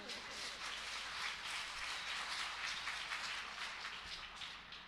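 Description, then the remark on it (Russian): An audience applauds steadily for about five seconds as a club presents someone with a notebook as a gift: a dense, even wash of many hands clapping at a constant level, with no voices on top. “И вот от клуба мы сейчас ему это вручаем, и ваши аплодисменты.”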